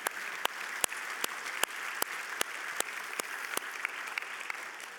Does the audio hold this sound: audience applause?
yes